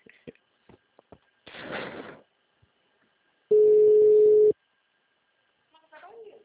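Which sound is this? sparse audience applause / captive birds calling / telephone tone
telephone tone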